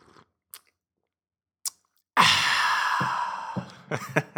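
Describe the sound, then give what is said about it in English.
A few faint mouth clicks, then a long slurping sip of hot coffee, trailing into a breathy exhale and a couple of small lip smacks. Nobody speaks. “Just going to take a sip here of this coffee while you guys are driving or working.”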